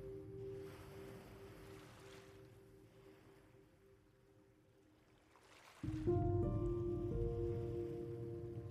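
Soft ocean waves wash in gently, swelling and fading twice, beneath a steady sustained musical drone that grows fuller and louder toward the end.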